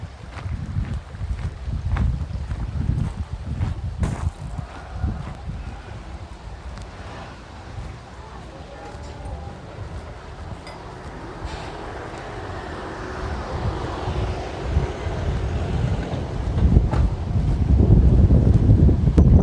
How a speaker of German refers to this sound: Wasserfall wird hinter mir gelassen. War ziemlich viel Betrieb.